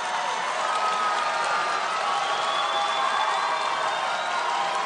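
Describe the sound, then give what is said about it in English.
A crowd erupts in sheer joy and relief, roaring with sustained cheering and applause, a dense, steady wash of clapping and shouting that stays loud throughout, with no individual voice standing out. No microphone was on the crowd. “When they erupt like that, with no microphone on the crowd in order to capture it, you just hear it organically.”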